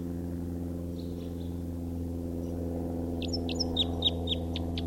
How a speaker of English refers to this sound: Where's that bird again?